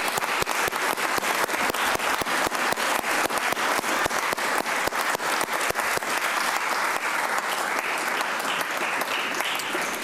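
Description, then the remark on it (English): Graduates at a graduation ceremony stand and applaud the people who have supported them, a dense, steady wash of many hands clapping that stays loud and even for the full ten seconds, with no voices standing out. “So why don't graduates just stand and just applaud those who are here and those who are away who've been with you all the time.”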